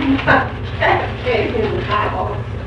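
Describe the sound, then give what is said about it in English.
A dog barks and whimpers in a run of short, strained yelps repeating every half second or so, over a steady low hum. “What do you mean, scare my dog?”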